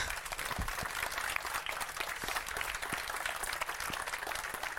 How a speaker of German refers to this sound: und an dieser Stelle vielleicht nochmal bitte kleinen Applaus für unsere coolen Developer, die nämlich alle dort in die Ecke stehen.